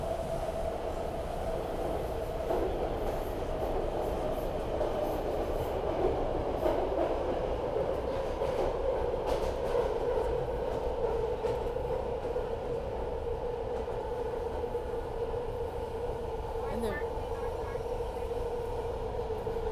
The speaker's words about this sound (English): Passing through Berkeley. This train is very crowded. Stopping momentarily. This is the subway version. This is not Amtrak. These trains are electric. As you can probably hear.